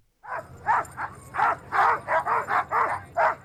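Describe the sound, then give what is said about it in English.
Hundreds of sled dogs at the start of the Iditarod Trail sled dog race in Fairbanks, Alaska, bark and yip excitedly in rapid, overlapping bursts, about ten loud barks in a few seconds, over a steady low background rumble. “The Iditarod Trail sled dog race started last Monday with hundreds of barking sled dogs and mushers high-fiving fans as they hit the trail.”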